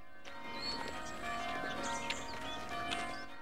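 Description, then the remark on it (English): Village church bells ring steadily throughout as villagers walk from their homes to the church, their overlapping tones hanging in the air, with faint scattered clatter underneath and no one speaking. “To the sound of bells, the villagers of Weirwold make their way from their homes to the church.”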